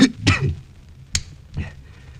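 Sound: man coughing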